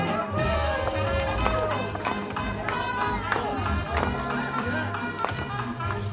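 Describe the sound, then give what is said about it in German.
Feet stomp and shuffle rhythmically on a wooden floor as two people dance a jitterbug, whirling wildly in circles and stomping to lively music, with a murmuring crowd filling the background. “Die beiden tanzen einen Jitterbug, wirbeln wild im Kreis herum, stampfen auf den Boden, drehen sich zur Musik.”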